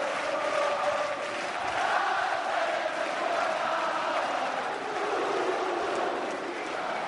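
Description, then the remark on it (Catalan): The castellers of Vilafranca, a large crowd, roar and shout in celebration, a sustained wall of cheering and collective war and victory cries that swells and holds steady for several seconds without pause. “aquestes són les celebracions, els crits de guerra i de victòria dels castellers de Vilafranca.”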